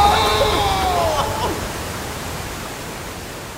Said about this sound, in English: Then the raft goes over a waterfall. Whoa!